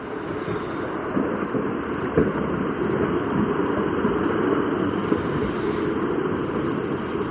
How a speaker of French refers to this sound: comme dans cet autre enregistrement de Fernand Desroussen, réalisé cette fois sur le volcan Arenal du Costa Rica, où se mêlent des craquements de blocs de lave et des cliquettements de grillons nocturnes.